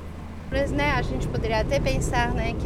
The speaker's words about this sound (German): Zusammen mit drei Studierenden fahren wir an diesem Vormittag mit dem Auto aus der Stadt heraus. Nach nur wenigen Minuten geht es durch Baumschluchten.